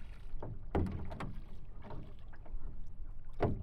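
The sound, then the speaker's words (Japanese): Oars dip and pull through water in a few splashy, uneven strokes, with a soft watery slosh and low wind rumble filling the gaps between them. “ほら、ボートを漕いだり、周りから聞こえてくる自然の音が、深い催眠状態にあなたを誘う。”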